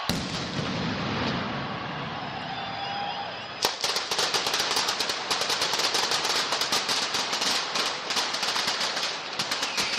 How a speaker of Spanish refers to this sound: Con el inicio de marzo, la capital del Turia se ha convertido en el epicentro de los espectáculos pirotécnicos y de las explosiones de pólvora. Valencia está viviendo desde las 2 la primera de las 19 mascletas que están previstas hasta el 19 de marzo